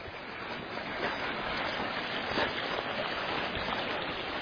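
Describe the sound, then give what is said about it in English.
Steady, rushing water flows continuously, a dense even wash of a very deep creek running, with no voices and no breaks for the whole stretch. “The creek is very deep here.”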